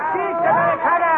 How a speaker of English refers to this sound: One day you find yourself in the ancient and mysterious city of Cairo, Egypt. As you approach Cairo's marketplace, native beggars advance shouting.